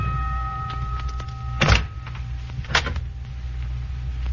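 A door is opened with two short mechanical clunks about a second apart, heard alone over a steady low background hum.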